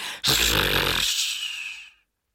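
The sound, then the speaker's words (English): One loud, drawn-out snore: a rough, rattling rumble on the in-breath that fades into a breathy hiss, with no talking around it. “He snored.”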